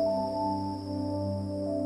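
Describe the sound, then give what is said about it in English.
A steady, unbroken chorus of insects chirring in forest trees at night, with a high sustained whine over lower droning tones, constant throughout with no pauses or voices. “Later, the sound of insects rules the trees.”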